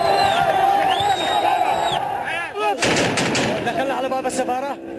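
A loud, chaotic riot crowd in Yemen, many shouting voices, with repeated sharp bursts of gunfire cracking through the din, the shots clustering irregularly over the second half.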